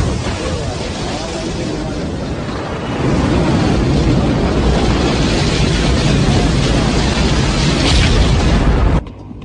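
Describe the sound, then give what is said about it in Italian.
A rocket engine's deep, thundering launch roar fills the air, a dense crackling rumble that swells louder after a few seconds and stays powerful until it cuts off abruptly. “10, 9, ignition sequence start. 6, 5, 4, 3, 2, 1.”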